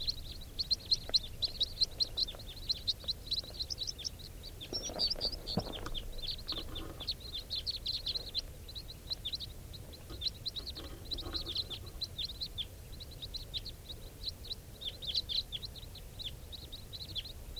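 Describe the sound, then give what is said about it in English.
A flock of birds passes overhead, many high, rapid chirping calls overlapping continuously throughout, with faint soft rustling and background noise beneath. “Flock of birds flying over.”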